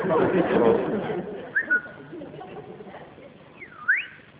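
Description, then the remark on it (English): A pet bird named Dave, being coaxed to give a kiss, makes two brief whistling calls: a quick rising chirp, then a sharp swooping whistle dipping down and up again, following a burst of muffled noise and faint voices. “It's people guaranteeing the birds will talk.”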